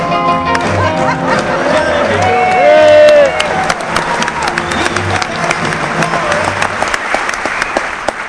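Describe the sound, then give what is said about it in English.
A crowd bursts into sustained applause with loud cheering and whoops, dense clapping continuing steadily throughout, with voices shouting over it and a swell of cheers around the middle. “Thank you for giving me the clap.”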